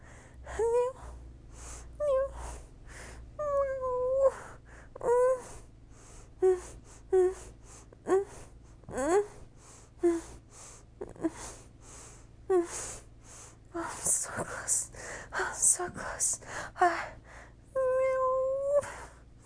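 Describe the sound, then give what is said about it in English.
A person imitates a cat, producing a rapid series of short meows and whiny mews with breathy gasps between them, continuing almost nonstop throughout. “I'd be such a good kitty just for you.”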